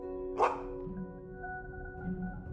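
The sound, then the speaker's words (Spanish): A single distant dog bark cuts briefly through a steady, humming tonal background, followed by only the soft, continuous drone with no further barks. “Pronto, en la tierra lejana, comienzas a escuchar unos ladridos.”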